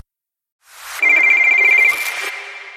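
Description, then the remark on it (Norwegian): An electronic telephone ringtone for an incoming caller trills loudly on its own, a rapid pulsing high tone that swells in, holds for about a second, then tapers off. “Jeg har jo denne frekvenstelefonen min, og som du, kjære lytter, du kan alltid sende meg inn en melding eller talemelding til, og vi har fått en innringer nå,”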